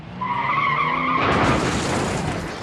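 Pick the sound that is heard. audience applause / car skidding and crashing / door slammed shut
car skidding and crashing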